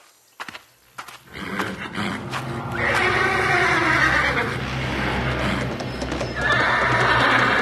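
In a stable, a few sharp hoof knocks open, then a horse whinnies loudly and at length, its voice rising and falling, with a second strong neigh near the end; no talking.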